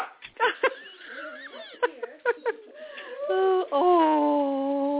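A small Tibetan Spaniel barks excitedly: a string of short, sharp yips, then a drawn-out, wavering whine-howl that rises and falls in pitch, loud and with no one talking over it.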